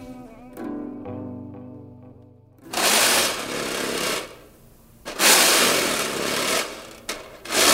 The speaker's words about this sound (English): This recording is me alone in the studio scraping the bottom of a snare drum. I heard that sound first in my head, and I was like, I need this like weird kind of scrape without thinking about snare or thinking about whatever it was that could make it